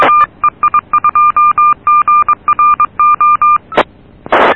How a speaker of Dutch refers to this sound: Oké, okay, ik heb even dat piepje uit laten ratelen.